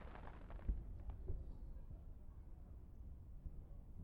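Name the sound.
fireworks exploding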